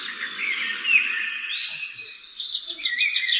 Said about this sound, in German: Süß, Vögel! Oh, toll, Vogelgezwitscher.